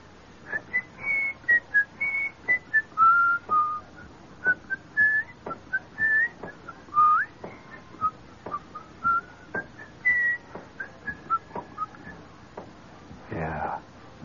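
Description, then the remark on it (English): A lively march tune whistled by people outdoors in hot sunlight, in clear, stepped notes, carried over a steady beat of sharp, evenly spaced taps, with a short burst of noise near the end. “And they're out there in that hot sunlight whistling, you know.”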